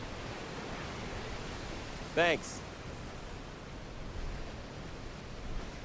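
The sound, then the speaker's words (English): A steady, hissing wash of ocean waves rolling onto a beach fills the scene, with a brief spoken word from a man partway through. “Terrell stands centered in a view of the ocean waves rolling in on a beach”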